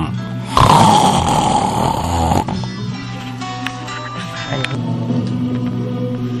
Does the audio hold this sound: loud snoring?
yes